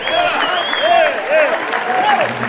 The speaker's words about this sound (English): Now, ladies and gentlemen, big round of applause.